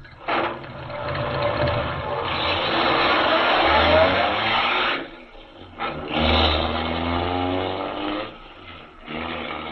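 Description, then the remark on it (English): A car engine roars loudly and revs as the car speeds away from an inn, briefly drops off, then surges again with rising, rumbling tones, no voices present. “Speeding away from the inn, Major Carroll is unaware that the wily Gottfried has sent him on a false trail”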